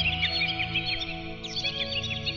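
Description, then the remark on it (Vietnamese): A bird sings loudly in spring, continuously in bright, rapid chirping trills, over a steady low hum in the background. “Trong lúc nó nằm hít hương xuân, nó nghe thấy một tiếng chim hót.”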